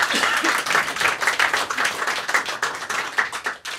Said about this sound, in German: Das ist ein Applaus wert, gebe ich zu.